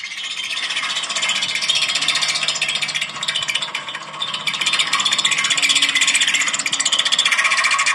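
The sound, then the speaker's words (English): A steamroller's steel front roller drum scrapes off rocks stuck to it in a continuous, loud grinding rasp, with a buzzing, echoey metallic vibration resonating off the steel drum and no pauses for the full eight seconds. “So the vibration, echoey vibration that you're hearing, I think, is resonating off of the steel drum, which is essentially the front roller.”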